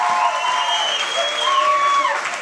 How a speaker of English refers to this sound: Let's have a round of applause as if it's the end of the podcast. Thank you, ladies and gentlemen!